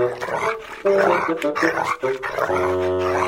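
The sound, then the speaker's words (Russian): A dog barks in several loud bursts, mixed with snarling growls, then settles into a sustained, steady growl at the end. “Так что и другие собаки нашу не тронут.”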